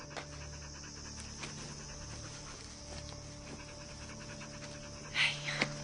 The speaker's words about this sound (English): The panting dog watches her walk away.